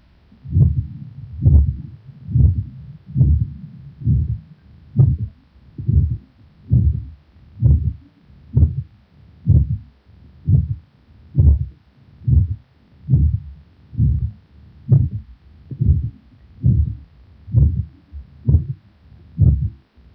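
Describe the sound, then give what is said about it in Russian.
A systolic heart murmur over the aorta, recorded in a patient with atherosclerotic damage of the ascending aorta, heard through a stethoscope as a steady run of about twenty low, muffled heartbeats, each carrying a soft whooshing murmur, even, with no talking. “На следующей фонограмме представлен другой вариант систолического шума на аорте, зарегистрированного у пациента с атеросклеротическим поражением восходящей части аорты.”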